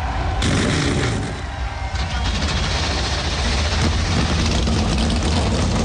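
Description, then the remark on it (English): A field of 37 race car engines fires up together at Pocono before the Great American Getaway 400, a loud, dense roar with deep rumbling lows that holds steady for the full few seconds, no voices on top. “To my fellow drivers, start your engines!”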